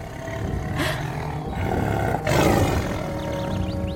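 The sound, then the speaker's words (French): A tiger, Shere Khan, roars loudly, a deep rumbling growl that swells twice over about four seconds, with no one speaking. “Quand tout à coup, surgit le tigre, Shere Khan.”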